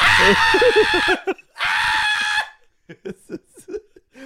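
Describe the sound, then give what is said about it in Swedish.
A person imitates a horror-film scream: two loud, shrill, sustained shrieks about a second each, separated by a short gap, followed by bits of quieter talking or laughter. “Typ såhär scary movie style.”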